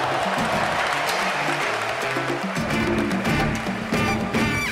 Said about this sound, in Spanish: Mirando el juego te das cuenta de que la gente en el estadio poco a poco empieza a aplaudir cuando Puerto Rico encesta.